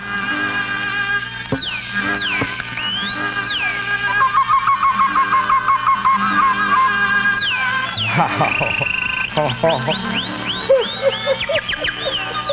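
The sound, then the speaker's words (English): A South African man whistles and chirps in imitation of birdsong, a steady run of rising and falling warbles and quick trills, fairly loud, with no talking; performed on a radio program in Buffalo. “They're South African, and the one guy talks and whistles like a bird.”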